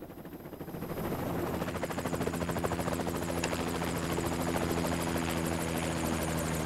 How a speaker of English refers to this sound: Against a backdrop of craggy mountainside and a peppering of pine trees, the helicopter prepares to land on a carpet of pristine snow.